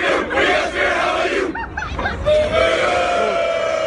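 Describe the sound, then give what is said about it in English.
A crowd of young students shouting a spirited school cheer together in America's capital, loud and dense, with a brief dip in the middle where a few rising calls break through before the group chant surges back. “The young students responded by turning away from the verbal attack and engaging in spirited school cheers.”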